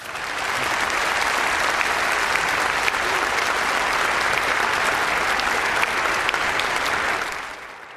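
A packed crowd applauds steadily for about eight seconds in the morning, welcoming speaker Dr. Ken Ham, a dense, even wash of many hands clapping that stays loud throughout and tapers slightly at the end, with no talking over it.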